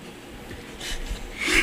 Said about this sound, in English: Why are these mics so sensitive? I can hear myself breathing.